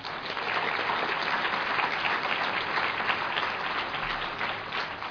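Sustained audience applause at an Al-Anon meeting for two people who gave talks, a dense, steady patter of many hands clapping at an even loudness for several seconds with no voices.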